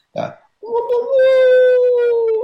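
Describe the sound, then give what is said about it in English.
A person imitates a wolf howl: after a brief breathy sound, one loud, sustained, steady-pitched howling note carries on for about two seconds. “One good thing people can do is, if they have a hard time wailing, is do the sound of a wolf howl.”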